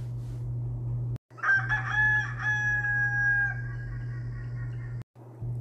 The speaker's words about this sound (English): Just then the rooster crowed.